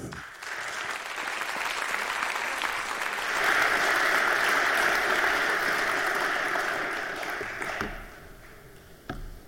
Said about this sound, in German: In diesem Sinne begrüßen wir mit einem warmen Applaus hier auf der Bühne